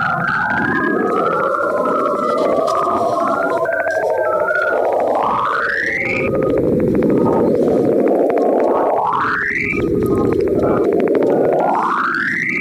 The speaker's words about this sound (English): The ever-changing magnetosphere of the ringed planet is heard in this next clip.